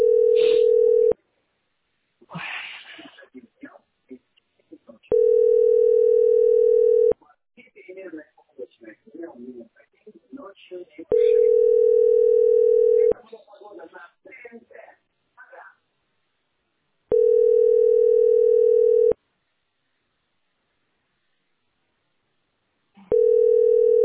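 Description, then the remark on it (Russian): A steady, mid-pitched telephone dial tone sounds in loud bursts of about two seconds, repeating roughly every six seconds, with muffled talking and rustling filling the gaps between them. “Гудок.”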